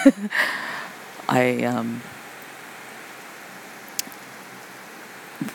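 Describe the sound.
Steady, fairly heavy rain hisses evenly throughout, with a short burst of voice near the start and a faint tap or two later on.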